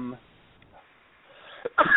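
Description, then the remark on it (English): A single loud sneeze bursts out near the end, preceded by a quick catch of breath, after a stretch of near-quiet that follows a brief snatch of voice. “excuse me, I had a sneeze.”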